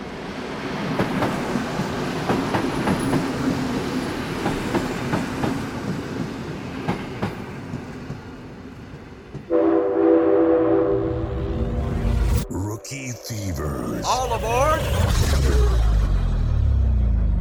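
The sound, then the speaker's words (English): A train rumbles along the rails with rhythmic clacking, then a loud, sustained horn blares, followed by a brief squealing whistle as the train keeps rolling past. No one speaks. “I picked a train this year instead of a plane because I feel like we were flying high on those 5 rookies from last year.”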